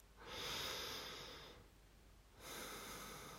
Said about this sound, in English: And I want you to take a lovely deep sniff for me, okay, baby? A nice deep sniff for mommy. Breathe in with me, baby, okay? Ready?